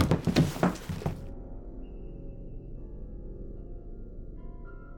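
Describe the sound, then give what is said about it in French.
A body falls to the floor with a cluster of heavy thuds in the first second, followed by a low lingering rumble and faint tones. “Et d'un coup, je tombe.”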